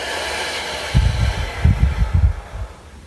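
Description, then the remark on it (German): A long, steady exhalation after a deep breath during a guided group breathing exercise, with breathy, rushing air lasting a few seconds and soft low rumbles of airflow toward the middle before it fades out. “Und wieder aus.”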